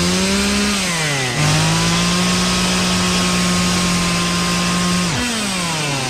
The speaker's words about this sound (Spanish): Adelante la motosierra.